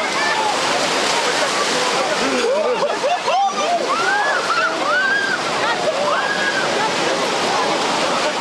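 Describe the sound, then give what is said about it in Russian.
Loud, continuous splashing and churning water as a great many people plunge into the cold Black Sea at Odessa after its waters were blessed, with a crowd shouting and calling out over it throughout. “после того, как владыка Диодор освятил и воды Черного моря, окунуться в нем оказалось невероятное количество желающих одесситов”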